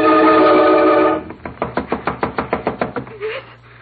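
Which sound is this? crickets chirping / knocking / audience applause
knocking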